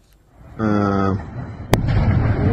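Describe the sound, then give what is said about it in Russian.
A single sharp explosion of a gas cylinder cracks out at 4 a.m. after a brief steady tone, followed by a lingering rough rumble of noise; the blast is sudden and fairly loud, with no speech. “Да, газовый баллон.”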